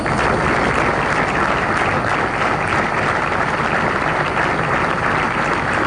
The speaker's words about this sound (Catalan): Aplaudiments